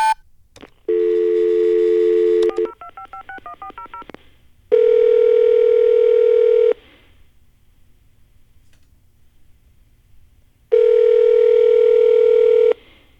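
Loud answering-machine beep tones with no voices: a steady two-second beep, a quick run of short pips, another long steady beep, then a pause before one more long tone.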